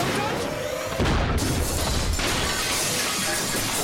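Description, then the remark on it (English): A loud crash of shattering glass as a glass elevator crashes erupts about a second in, bursting over an already noisy rumble and continuing as a dense, clattering smash until the end. “You got some shards of glass in your chocolate river, mate.”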